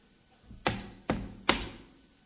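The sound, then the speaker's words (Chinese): Three firm knocks on a closed main door, evenly spaced about half a second apart, each a sharp thud with a short ringing decay, and no voices. “待我上前叩我门。”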